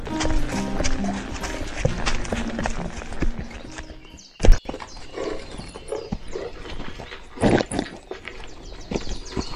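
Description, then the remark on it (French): Horses' hooves clip-clop in a busy, continuous patter as the riders halt to rest, then the steps thin out after a sudden loud knock, leaving scattered hoofbeats and stirring movement. “Commencez par donner à boire aux chevaux, après il faudra les desseller, les étriller, les nourrir.”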